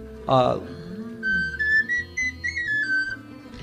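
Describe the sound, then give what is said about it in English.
A tiny recorder, played by a musician warming up before a live performance, gives a short run of high, piping notes that step up and down in pitch, clear, following a brief burst of sound at the start. “Oh, there's a whistle. No. The smallest recorder ever.”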